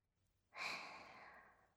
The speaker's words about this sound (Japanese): おぉ、大きなあくび。